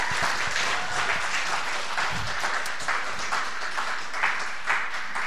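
A crowd applauds a man who has just spoken about choosing Jesus Christ, as Pastor Jay comes up, steadily for several seconds, a dense wash of many hands clapping at once with no break, fairly loud and even throughout, with no talking over it.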